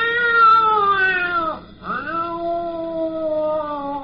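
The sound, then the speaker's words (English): A lion holding up a paw with a thorn in it gives a soft, kitten-like cry: two long, plaintive mewing wails, the first sliding downward and breaking off, the second rising and trailing on. The cry is loud, with no talking. “He held up his paw and made a soft cry like a sad, hungry kitten, only louder.”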